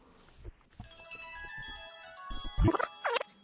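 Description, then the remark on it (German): A tinkling electronic melody plays as a mobile phone rings, bright tonal notes repeating in a steady pattern, with a few louder bumps and rustles toward the end. “Ist das dein Handy? Meins ist das nicht.”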